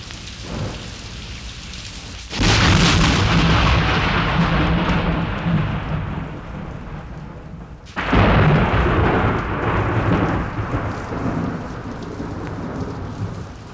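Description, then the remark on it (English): Steady rain pours down at night with a constant hiss, broken twice by loud, rumbling thunderclaps that swell suddenly and roll on. No voices are present. “And sometimes with rain.”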